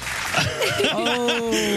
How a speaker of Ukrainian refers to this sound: Ну, оплески оті там зроби, будь ласочка.